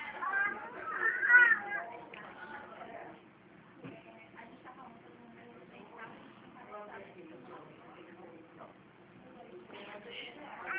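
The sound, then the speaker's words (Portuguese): A baby cries in loud, wavering bursts near the start, then fades into fainter whimpers under muffled background noise, as if heard through a phone line. “A senhora tem um neném?”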